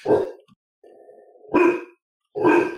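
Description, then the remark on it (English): A dog named Shaggy gives a low, steady growl lasting under a second, set between three short, rough bark-like bursts. No one speaks over it. “That's right, Shaggy, you growl.”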